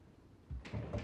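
The door to a study swings back and forth on its hinges, with a soft low thud followed by a rougher scraping, rubbing sound, all in about a second with no voices.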